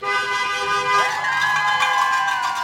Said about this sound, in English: They're waving huge, dragon green campaign signs for school board candidates Hannah Smith and Cam Bryan, and yelling for passing drivers to honk their horns in support.